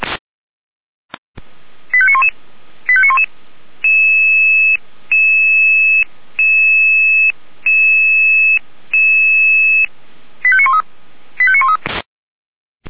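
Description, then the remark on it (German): A sequence of electronic radio pager alert tones, a test of the fire brigades' radio alarm receivers in the city of Weimar, Germany: short rapid beeping bursts at the start and end, framing a run of about six steady two-tone pulses with brief gaps, loud and clear with no talking. “Überprüfung Funkalarmempfänger für die Feuerwehren der Stadt Weimar.”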